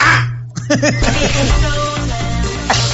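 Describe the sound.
A person in a car mimics a crow, letting out a quick series of harsh, arching caws, with a steady low engine hum filling the background.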